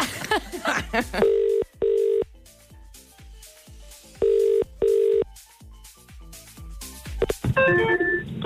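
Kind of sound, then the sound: signal or alarm, telephone ringing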